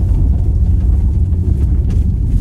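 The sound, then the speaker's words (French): A loud, steady engine roar heard from inside a car in drive with the accelerator floored on a 0-degree day, dominated by deep rumbling drone with a faint whine above, continuous throughout with no voices. “Je suis en drive, il n'y a personne derrière moi, je mets l'accélérateur à fond et ça donne ça.”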